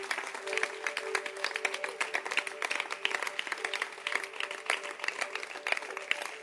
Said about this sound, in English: Clap our hands for them.